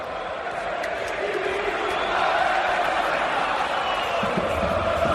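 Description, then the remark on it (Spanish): A large stadium crowd at the Estadio Santiago Bernabéu chants "Viva España" in the 12th minute of a match as Spanish flags appear. It is a dense, steady roar of many voices that holds at an even, loud level for the whole few seconds. “Gritos de Viva España en el Estadio Santiago Bernabéu.”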